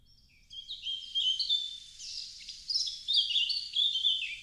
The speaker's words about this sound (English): And then for my mother in particular, she grew up in the English countryside where there were many, many more bird sounds than just one blackbird singing in a courtyard.